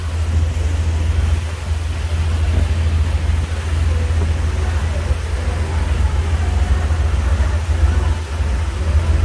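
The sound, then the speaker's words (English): A boat's motor roars with a steady, loud low-pitched drone and a broad wash of noise above it, holding an even level, as a boat speeds past another boat going 8 knots through Stiltsville in Miami. “Here's a video of us going through Stiltsville, and a guy just could not wait for me to get through at 8 knots, and he flies by us.”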